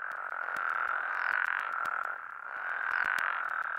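A dense chorus of frogs croaks continuously, a steady buzzing drone swelling and easing in two slow waves, with sharp clicks scattered through it and no voices.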